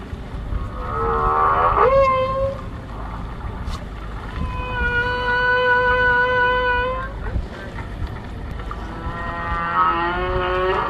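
Song of a male whale in a bay, picked up by an underwater microphone lowered into the sea and connected to a boat's speakers: long, sliding tonal moans and a sustained steady hum with rich harmonics, rising and falling over a constant low rumble of water noise.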